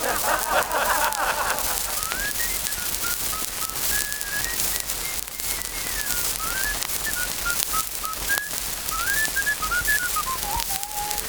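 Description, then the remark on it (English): A person whistles a wandering tune, the thin pure notes rising and falling steadily over a constant hiss of background noise like rain, with no talking. “Do you ever do anything else but whistle?”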